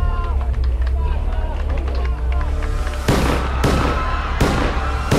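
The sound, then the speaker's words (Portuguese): A loud, excited crowd cheers and shouts for Pope John Paul II riding in a white Fiat, then four sharp gunshots crack out in the second half, at 5:17, spaced less than a second apart and cutting through the noise. “Dezessete minutos depois das 5, ouvem-se 4 tiros.”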